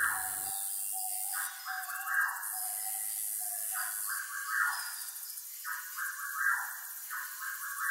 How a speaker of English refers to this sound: The sound of screeching birds, chirping bugs, and wailing monkeys emanate from a room across the museum entrance.